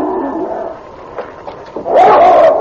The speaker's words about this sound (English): When the door was opened, the great husky strained at the chain that held him, baring his teeth and snarling at the sergeant. He bore the marks of many beatings, raw welts around his head and shoulders. His eyes were red with hate.